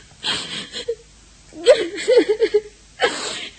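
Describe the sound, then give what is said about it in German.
A girl crying and sobbing, with shaky, breathy gasps and a high, wavering whimper in the middle, then another sharp sob at the end. “nun hör mal auf zu weinen.”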